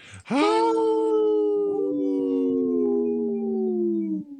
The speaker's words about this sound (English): Yeah, I could hear three howls.